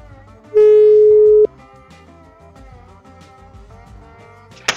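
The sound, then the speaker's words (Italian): A dropped phone call tone: one loud, steady electronic beep at a mid pitch, held for about a second, then cutting off into a quieter, murmuring background. “Ci sei cascata, proprio sul più bello.”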